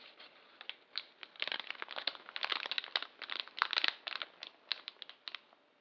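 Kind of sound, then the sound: nature, campfire crackling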